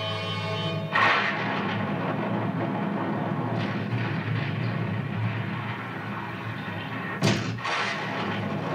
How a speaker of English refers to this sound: Say, the cannon's exploded.